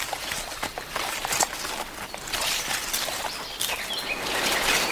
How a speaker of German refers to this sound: Aussteigen. Könnt ihr schon die Vögel hören? Dieser Weg ist voller Pflanzen.